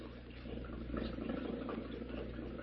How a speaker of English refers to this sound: Let's get this motor running.